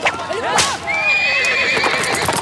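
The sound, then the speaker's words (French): A horse whinnies loudly with a long, rising and falling neigh, while hooves clop and a carriage rattles along close by, with faint voices mixed in the busy background. “Mais elle a réussi à voler une calèche en assommant le cocher avec son pied de cochon.”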